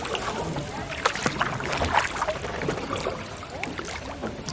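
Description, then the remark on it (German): A punt steered by a ferryman glides through water in the Spreewald, with steady lapping and soft splashes against the hull and occasional sharper sloshes from the pole, continuing throughout without talking. “Ist okay so, ne, wenn wir hier so fahren? Na klar. Hauptsache kein Kahn versenken, wa?”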